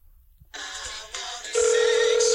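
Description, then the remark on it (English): A telephone rings with a bright, buzzy electronic tone after a short silence, growing louder in two abrupt steps until it sounds loud and steady. No one speaks. “answer the goddamn phone.”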